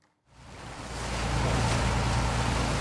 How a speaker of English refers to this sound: A boat ride across Boston Harbor, a good way to see this city with its rich history